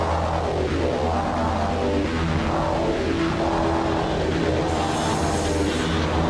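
The four-cylinder Toyota Celica engine of an old JGTC Toyota Supra race car revs hard, its pitch climbing and falling in several repeated sweeps over a steady, loud mechanical roar, with no one speaking.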